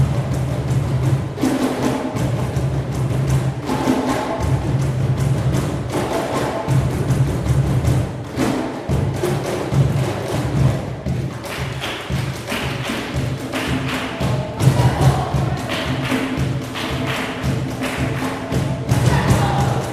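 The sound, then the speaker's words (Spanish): An inclusive youth cajón percussion ensemble in Lima, Peru, drums together in a steady, busy rhythm, with deep bass thumps under crisp slaps. The playing is loud and continues for the whole stretch without any talking. “dentro de los elencos que tiene está este, el Ensamble de Percusión Inclusivo.”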